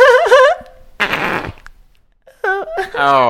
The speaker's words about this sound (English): Oh. Oh, I farted. Oh, my God.